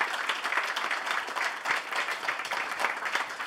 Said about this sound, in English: And give yourselves a round of applause for coming out, supporting our show. Thank you.